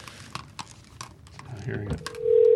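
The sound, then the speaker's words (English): A steady electronic ringing tone of an outgoing phone call starts loudly near the end and holds, preceded by scattered clicks and crunchy, chewing-like noises with faint murmuring in the background. “See, no one answers phone calls anymore. I know. Is it ringing? He probably thought. Oh, I hear ringing.”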